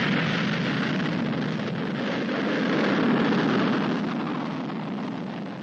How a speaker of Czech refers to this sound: Sa kosmodroma Bajkonur u Sovjetskom savezu, lansiranjem Vostoka 1, započela je nova era u osvajanju svemira. Start!